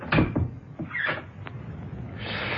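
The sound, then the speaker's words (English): The door of a man's home is opened: a few sharp knocks and rattles of the latch, a short creak, then a faint hiss of room noise as it swings open. No one speaks. “Oh, that's his door.”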